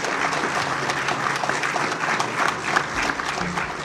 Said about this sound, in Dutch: Hij werd onmiddellijk onthaald op een enorm applaus.